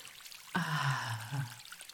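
water pouring

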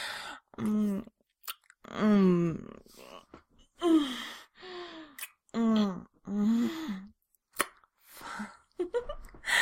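gasping

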